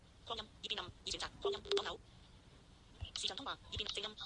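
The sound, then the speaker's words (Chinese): A phone rings in short, warbling bursts: several quick pulses, a brief pause, then more rings, as another person is being added to a group phone call so that four people can talk together. It is moderately loud, with no one speaking over it. “咁依家咧应该就会继续打埋俾”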